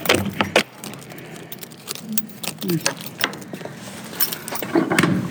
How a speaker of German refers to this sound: Ich bin gespannt, wie sich diese dicke, große, schwere Tür denn anhört, wenn wir sie jetzt mal öffnen. So. Schweres Schloss wird entfernt.